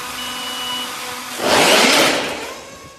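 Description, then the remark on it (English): A small, plane-shaped Zipline delivery drone carrying boxes of samples is flung from a catapult launcher like a high-tech slingshot: a steady mechanical whir with faint tones, then a sudden loud rushing whoosh that swells for under a second and fades. No one speaks. “The drone's then put on a launcher, like a high-tech slingshot.”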